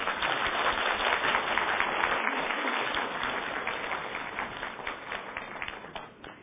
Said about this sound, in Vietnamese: Thưa quý vị có muốn một tràng pháo tay để chào mừng thầy lại không?